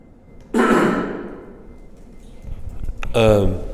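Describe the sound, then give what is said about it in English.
A person coughs once, loudly and close to the microphone, with a harsh burst that trails off; after a short pause, a voice begins speaking. “So it'd be, excuse me, about to cough.”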